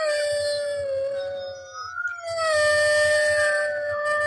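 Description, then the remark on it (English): Several wolves howl together in long, sustained, wavering tones that overlap, pause briefly mid-way, then swell again, loud with no talking. “The baying of wolves sounded nearer and nearer, as if though they were closing round on us from every side.”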